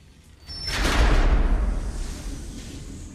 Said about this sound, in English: Jeff pushes open a large double door with a small window in it at head height.